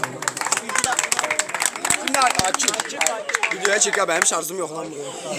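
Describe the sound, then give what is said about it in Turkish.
A crowd claps steadily with dense, overlapping sharp claps throughout, while voices call out and cheer over the applause at a fairly loud level. “Güzel güne bir alkış alalım.”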